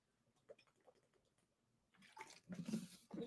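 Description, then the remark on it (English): Soft scattered sounds give way to a rush of splashing water being poured, loud bursts with a short pause before a final splash. No talking. “Maybe you need to be drinking a little bit of this, some water.”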